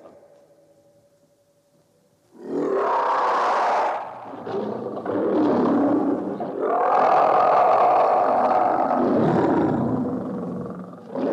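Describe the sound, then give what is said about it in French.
A man's voice imitates a lion's roar, several long, loud, growling roars in a row lasting about nine seconds, rising and swelling with brief dips between them. “Et le lion ? Parfaitement, le lion. Je le dis et je le prouve.”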